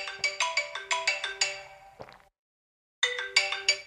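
An alarm clock, set for the stock market opening shortly after 8 a.m., rings with a rapid, bright electronic melody of repeated chiming notes, falls silent for about a second, then starts up again, loud.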